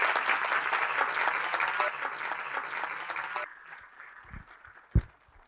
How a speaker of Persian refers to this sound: مجدد آقای دکتر رو تشویق بفرمایید.